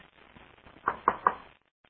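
Three sharp knocks in quick succession, a chair being bumped or tapped, distinct against the quiet, with no talking.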